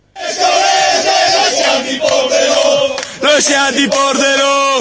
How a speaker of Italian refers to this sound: Comunque, omaggiamo la promozione del Pordenone in Serie B, rimettendo in onda, diciamo, i cori storici e famosi dei tifosi del Pordenone, tipo questo.